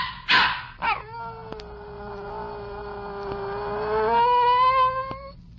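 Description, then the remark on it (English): A dog gives two quick, sharp barks and then breaks into a long, drawn-out howl that holds steady for several seconds. It sounds clear, with no one talking. “And Tony decided that what he wanted most in life at this moment was a dog.”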